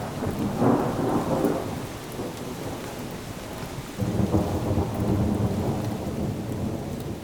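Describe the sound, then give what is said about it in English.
Steady rain falls on a late summer day in eastern Wisconsin, with rumbling thunder rolling through, a broad, continuous wash of storm noise with deep swells near the start and again midway, no voices present. “This is Speaking of Faith, and I'm Krista Tippett with a radio pilgrimage with Thich Nhat Hanh on a rainy late summer day in eastern Wisconsin.”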